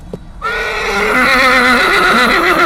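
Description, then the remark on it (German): A white horse ridden by a farmer, stopping abruptly in the Lochgasse, lets out a long, loud whinny, its high quavering tone wavering steadily after a brief soft knock at the start, with no voices. “Ja, dort hat der Bauer dann gedacht, er ist schon am Ziel eigentlich, aber das Ross ist dann einfach stehen geblieben.”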